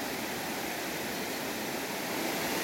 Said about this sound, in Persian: یه جای خیلی عالی، خوشاب و هوا هستیم در شمال ایران. هوا عالیه، صدای آب، طبیعت زیبا.